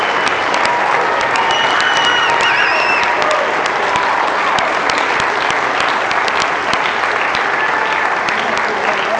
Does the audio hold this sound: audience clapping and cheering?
yes